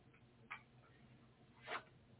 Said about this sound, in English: Turning the page.